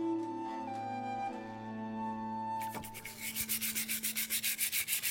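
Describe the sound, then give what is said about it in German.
A steady tonal hum fades, then brisk scrubbing of pottery shards in a plastic bowl of water at an archaeological dig: about a dozen quick, even brush strokes in a fast rhythm, each a harsh, hissy rasp, fairly loud and with no voices. “Er selbst versteht sich als Experte fürs Scherbenwaschen.”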